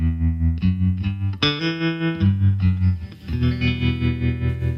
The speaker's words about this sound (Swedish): Ja, då är jag framme lite, man kan säga veckans gnäll, som jag försökte introducera med min lilla jingel. Ska vi köra jingeln?